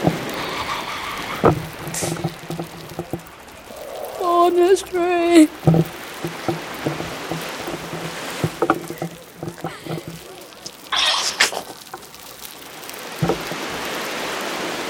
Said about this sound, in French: Le vent souffle dans les sapins.